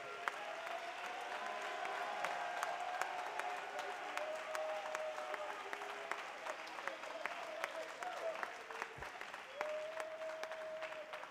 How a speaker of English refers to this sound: Well, if you still believe it, clap your hands with all your might and shout.